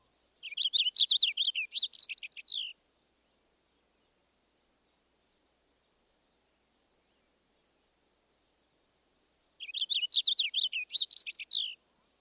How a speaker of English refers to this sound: Next, the clearer song of the purple finch.